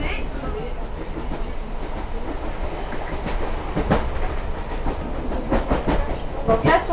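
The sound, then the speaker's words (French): A tourist train rumbles steadily along its rails in the upper Allier gorges, with a low continuous roar and repeated clicking wheel beats that grow a bit louder toward the end, while faint voices murmur underneath. “Vers l'avant du train, nous sommes dans l'Allier supérieur.”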